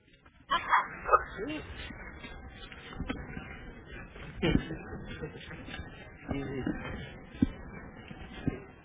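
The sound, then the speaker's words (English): A dog barks in a few short, sharp bursts near the start, with scattered yips after, while people talk in the background. “See, the Gujaratis would never keep dogs, you know.”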